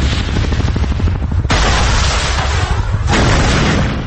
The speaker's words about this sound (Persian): انفجار شیمیایی و گاز خردل از همان کنار دجله و فرات تا همه بیمارستان‌های پذیرای معلولان شیمیایی و تا امروز با او ماند.